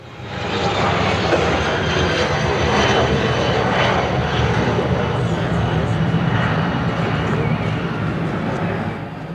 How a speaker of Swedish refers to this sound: Ljudet står flygplanen för. Planen som landar och startar på Midlanda.